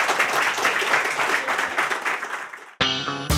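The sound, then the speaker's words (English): An audience at Blackrock Castle Observatory, during a Summer of Space event, applauds in a dense, steady roar of many hands for nearly three seconds, then it cuts abruptly to a bright, tonal musical jingle. “And big round of applause to you guys again.”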